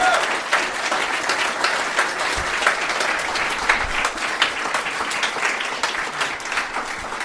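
Sustained audience applause, a dense, steady roar of many hands clapping at once with bright crackling texture, fairly loud and even throughout with no one speaking.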